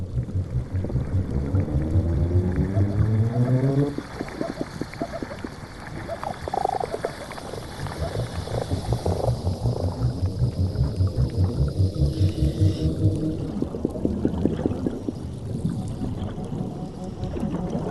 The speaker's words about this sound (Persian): به طور شگفتی آوری ماهی‌ها می‌توانند با یکدیگر صحبت کنند.